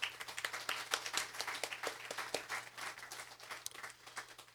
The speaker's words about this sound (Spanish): Amén y amén. Dele un fuerte aplauso a Jesús.